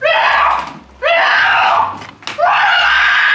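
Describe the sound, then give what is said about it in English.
A woman screams loudly in three long, strained bursts separated by short breaths, each cry high-pitched and sustained with no talking. “What's going to be really scary is if, like, all of a sudden she stops screaming.”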